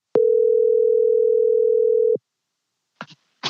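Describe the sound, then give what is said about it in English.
A single steady telephone ringing tone hums for about two seconds as a son phones his father, then stops, followed by a couple of brief clicks and rustles as the call connects. No voices. “So together, we phone him up.”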